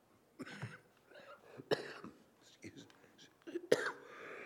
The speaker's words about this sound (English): Excuse me, I came home with a little bit of a cough that I'm struggling to get rid of.